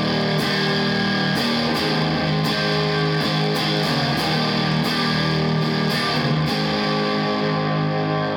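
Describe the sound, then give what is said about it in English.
A heavily overdriven electric guitar, a completely stock Strat with single-coil pickups played through an amp cranked all the way up, plays loud, saturated chords with a thick, fuzzy distortion, sustained notes ringing out with sharp strums punctuating the dense, buzzing wall of sound. “And so then you can kind of crank it up all the way, where now you're really overdriving your amp, and you're just”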